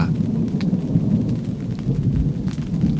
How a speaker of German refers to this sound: Gut. Mehr Donner. Mit Gewitter und Regen und Wind. Schön im Zelt zu sitzen.